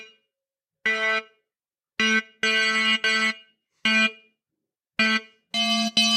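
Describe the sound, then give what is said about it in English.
Bright, metallic bell-like synthesizer notes with clashing, inharmonic overtones, about eight short strikes in an uneven rhythm, each with a sharp attack and quick fade, played alone. “So this is a bell-like sound. It doesn't have a harmonic series.”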